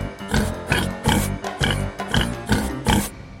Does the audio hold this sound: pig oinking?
yes